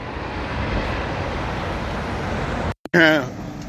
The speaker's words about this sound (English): The good bus. Is that my bus? It's the OK Bridge.